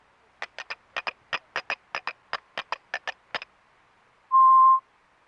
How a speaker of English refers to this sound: One stick is held firmly in the left hand and the other is in the right hand. The stick in the right hand is struck against the stick in the left hand. This produces a clicking sound.